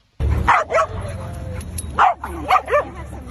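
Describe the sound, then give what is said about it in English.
A dog named Chaplin barks about five times, in two quick clusters of sharp woofs with short pauses between, over a low steady background hum. “After a fun-filled 3 years in Canada, Victoria Morgan and her dog Chaplin are coming home to Australia.”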